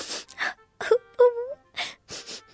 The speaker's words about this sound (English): On the pavement stood a giraffe, who was sniffling sadly.